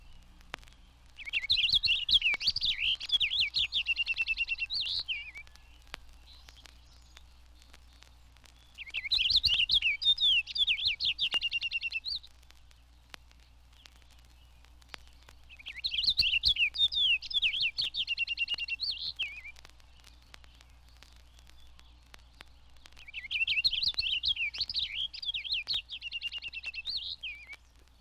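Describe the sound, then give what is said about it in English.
Four bursts of rapid, bright purple finch song, a continuous warble, each lasting about three seconds with pauses between, sung clear over a faint low hum. “The purple finch ranges south with the evergreens, but it is more common in the north woods, its song a continuous warble.”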